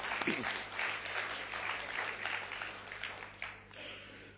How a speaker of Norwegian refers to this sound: Det handler om hva Jesus kan gjøre gjennom livet ditt. Jeg gir Jesus en applaus for det.